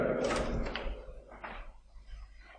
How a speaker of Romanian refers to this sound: Pe la 10, după ce băusem cafeaua și începusem să răspuiesc corespondența, cineva a bătut în ușă.